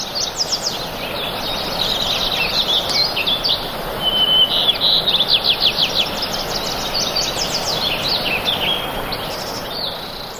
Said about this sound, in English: This is audio that was recorded a couple of dozen miles northeast of Jackson Hole, Wyoming, at Spread Creek Pond in June of 1981. You hear all sorts of beautiful sounds, yellow warblers, Wilson's warblers, house wrens, dusky flycatchers. Here's that.